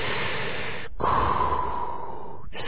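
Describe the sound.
Heavy, mechanical respirator breathing through a helmet: a long hissing inhale, then a raspy exhale with a faint whistling tone, separated by brief silent pauses. It is steady, with no talking.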